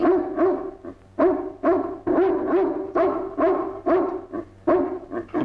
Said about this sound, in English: is outside on the other side of a door, apparently barking to be let in